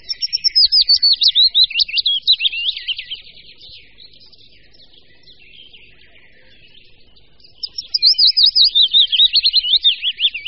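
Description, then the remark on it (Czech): A willow warbler sings two sweet, high, descending warbled phrases, each about three seconds long, separated by a quieter stretch of faint twittering. No voices are heard. “A nyní zpívá nejbližší příbuzný druh, stejně početný budníček větší.”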